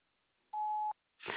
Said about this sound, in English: Sorry, I can't come to the phone right now. Please leave your name and a number after the beep, and I'll get back with you as soon as possible.